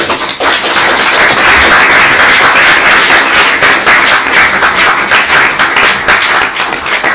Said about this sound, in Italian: per cui, cioè, non so, chapeau, io penso che si meriti un grossissimo applauso.